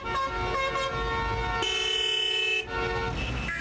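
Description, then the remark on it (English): Several car horns honk over a steady rumble of engines in a traffic jam, one long sustained blast in the middle with shorter toots around it, like a congested street full of idling traffic. “spends most of his workday stuck in grinding traffic jams where uniformed cops struggle to cope with double-decker passenger buses, donkey carts, and newly imported BMWs.”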